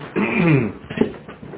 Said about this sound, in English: Why is he crying, that puppy dog, all of a sudden?